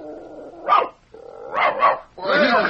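A dog named Deuce barks three times in short, loud bursts, the last two in quicker succession, over a steady tonal hum in the background, barking out the colour of a woman's hair (three barks for red).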